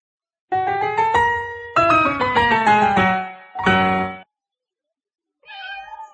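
Several cats on a bed meow in a quick run of long, wavering, overlapping cries, followed by a pause and one shorter, higher meow. The cries are loud, with no talking.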